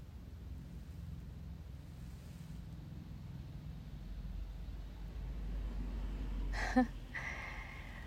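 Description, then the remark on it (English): A low, steady rumble of traffic in a neighborhood, with one car swelling louder as it drives by on a wet road in the rain, a brief sharper noise near the end, and faint rain hiss throughout. “You can even hear the cars driving by through the neighborhood, through the rain.”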